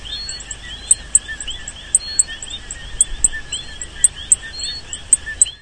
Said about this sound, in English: Here is a recording of a rainforest in Puerto Rico. Listen closely and try to count how many frogs you hear.